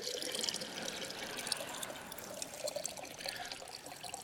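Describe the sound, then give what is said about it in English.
Water splashes and sloshes steadily inside a jar, a continuous bright liquid churning with small irregular bursts, heard on its own without any talking. “This is a jar. This is water.”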